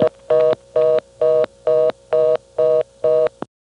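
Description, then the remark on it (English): After 1-1 is dialed on a callback circuit restricted to 726 numbers, the telephone line answers the blocked digit with a rapid, evenly pulsed reorder tone, about eight short buzzy beeps in a steady rhythm, loud and clear with no voices. “I'll dial 1-1. Notice how the 1 is blocked.”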